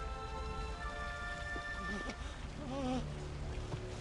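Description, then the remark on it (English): Steady, heavy rain pours down on the castle roof as Beast fights Gaston, in a dense, continuous hiss, with sustained tonal notes and a few wavering, voice-like tones rising over it partway through. “Rain drips down his face, and his eyes soften.”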